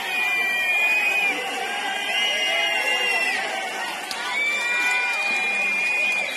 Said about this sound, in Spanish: Pedro Sánchez ha dicho que, bueno, que qué se le va a hacer. Vamos a escuchar esos abucheos, si te parece.